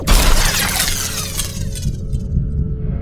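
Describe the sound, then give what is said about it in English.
A single loud gunshot cracks at the start, followed by a bright shattering, crackling tail that fades over a couple of seconds into a steady low rumble. No one speaks. “Then I whip up the gun and shoot it in the face.”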